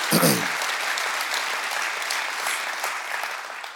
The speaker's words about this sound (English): So, y'all clapping. Okay, cool.